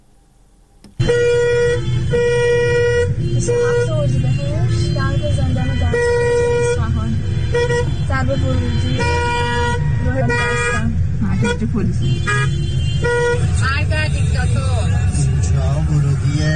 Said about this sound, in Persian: ترافیک جلوی زندان دستگرد نگاه کنید، تازه هنوز اینجا نرسیده به زندانه.